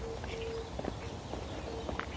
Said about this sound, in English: morning doves out hoo-hooing. A lot of birds out today.